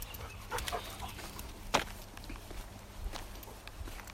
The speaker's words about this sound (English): Did you catch the sound of a panting dog running past me a minute ago?